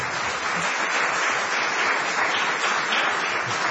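Steady audience applause, a dense crackling wash of many hands clapping at once, loud and even throughout with no voices breaking through.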